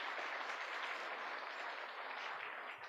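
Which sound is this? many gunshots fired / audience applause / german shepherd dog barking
audience applause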